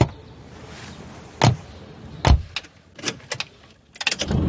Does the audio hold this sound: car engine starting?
yes